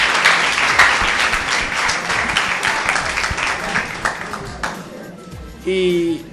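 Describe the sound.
An audience breaks into dense, steady applause for the photographer that carries on for several seconds before fading out, followed by a brief spoken voice at the end.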